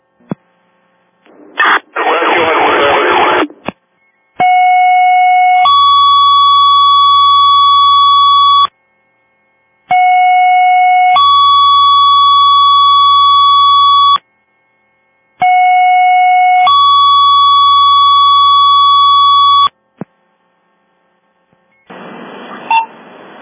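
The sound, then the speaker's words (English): Fire dispatch alert tones for a second-alarm structure fire at 21 Poland Street: three loud, identical two-step tone sequences repeat about five seconds apart, each a short steady pitch jumping to a longer higher one over a low hum, with brief bursts of radio static at start and end. “X4 control, can you hit the tones again, please?”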